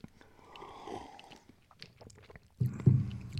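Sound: sipping beer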